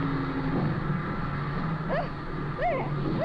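A seaplane touches down on water, its engine droning steadily with a low rumbling hum, while brief rising and falling whine-like tones sweep through near the end.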